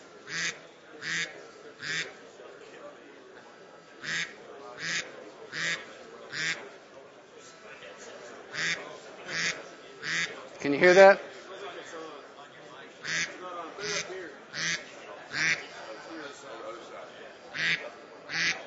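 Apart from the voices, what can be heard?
duck quacking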